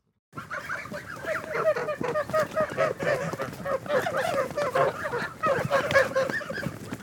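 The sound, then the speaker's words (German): A flock of geese being brought in from the pasture honks continuously and loudly, many overlapping calls forming a dense, busy chorus, with no voices. “Gänse werden von der Weide geholt.”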